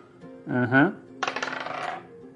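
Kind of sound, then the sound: dice being rolled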